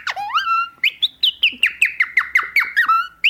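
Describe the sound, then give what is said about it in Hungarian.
A person imitates bird calls: a rising whistled note, then a rapid run of about ten sharp, descending squawky chirps in quick rhythm, fairly loud, with no talking. “Ugye volt az előbb, amit mutattam, a madárhangok, ez a...”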